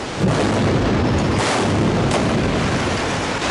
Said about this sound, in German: So ist es dann auch gelaufen und die Brücke ist in sich zusammengefallen. Knapp 100 Kilo Sprengstoff hat es gebraucht. Dreimal innerhalb von 2 Sekunden hat es geknallt.